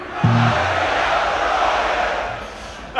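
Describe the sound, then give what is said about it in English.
A large festival crowd at Wacken screams and roars on the performer's call in one sustained, dense wall of noise for several seconds, with a brief low tonal hum at the start before the cheering dominates. “Can I hear you scream, Roger me up the wrong'un?”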